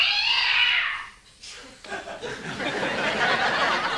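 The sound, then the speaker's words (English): A male cat yowls loudly with a long, wavering cry, breaks off briefly, then launches into another drawn-out, strained meowing wail that fills the rest of the moment. “Someone please just go check on the cat, see what the hell's wrong with him.”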